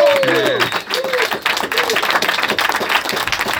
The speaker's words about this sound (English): I just want to thank everybody for coming. It was awesome. Give them another round of applause if you will, please.